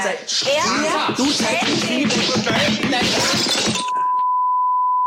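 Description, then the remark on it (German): Dishes and glassware clatter and clink busily for several seconds as a dishwasher is being loaded, with voices talking over them; then the noise stops abruptly and a steady high beep tone continues alone. “Du musst nebenbei Geschirrspüler einräumen.”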